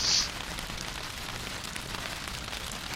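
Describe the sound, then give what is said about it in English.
Dense, steady pattering of simulated hail drumming on an aircraft in a flight simulator, from the AccuFuel add-on, a continuous crackling wash that holds even for three seconds, with a brief brighter hiss at the very start and no voices. “And when I switch to spot view, the sound doesn't change, and I've also noticed when I alt tab, the sound doesn't change, so it must be AccuFuel's hail sound.”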